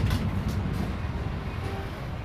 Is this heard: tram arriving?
yes